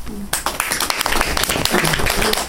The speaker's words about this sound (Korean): 다시 한번 박수로요.